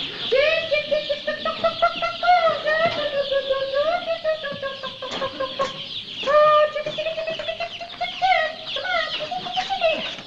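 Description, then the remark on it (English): A flock of chickens clucks and warbles almost nonstop in 90-degree heat, their drawn-out calls overlapping with sharper, brief clucks and a few faint clicks throughout. “Come on, chickens.”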